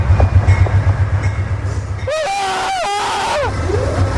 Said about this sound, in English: running alongside the train as it's beginning to stop at the nearby station.